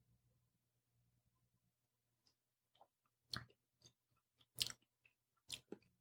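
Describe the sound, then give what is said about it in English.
Someone chewing grilled chicken: a handful of moist, crunchy mouth sounds in uneven bursts, a few sharper and louder than the rest, over a faint low hum with no talking. “This is great chicken.”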